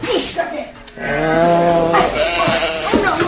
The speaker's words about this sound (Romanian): Ai altă oaie, alta, alta.